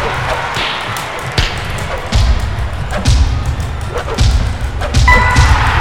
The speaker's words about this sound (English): And the lower pitch punches means I'm getting hit most of the time.